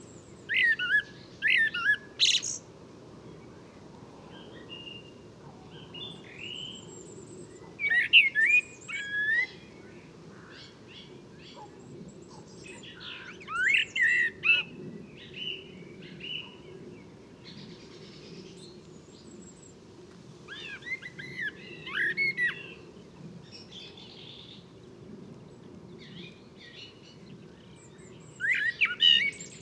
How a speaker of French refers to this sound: Naturophonia Podcast, 14 mars 2018, étant de la Grand-Rue, dans la Puisaye, pas très loin de Gien, voilà, la ville de Gien, au sud-est de Paris, à 150 km. Donc là, je suis à la tombée du jour, sur un merle noir très coopératif.